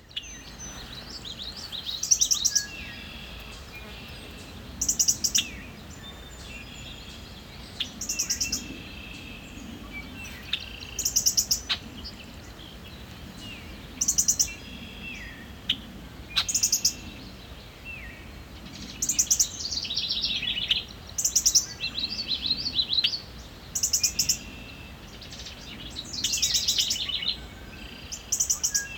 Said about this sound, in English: This has been WSHU's Bird Song Break featuring the Northern Cardinal this week.